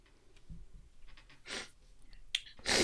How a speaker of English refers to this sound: bless you